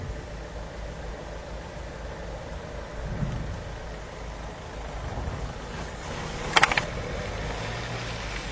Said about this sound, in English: You can hear cars in the background.